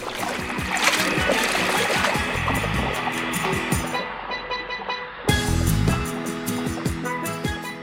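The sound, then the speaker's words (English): Loud, continuous water splashing and sloshing over a musical backing, briefly turning muffled near the middle before the bright splashing bursts back in. “All the whales are jumping in the ocean, swishy swashy, swishy swashy, splash!”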